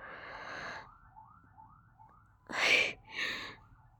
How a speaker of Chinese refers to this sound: 你别这么激动哦。不过就是听到外面的警笛声罢了。